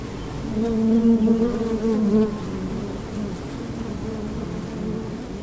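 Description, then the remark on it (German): Honeybees from a school's own beehives behind the school sports field buzzing steadily, a dense swarm-like drone that swells louder near the start, then settles into a continuous softer hum with no voices. “So klingt es bei uns inzwischen wieder hinterm Schulsportplatz.”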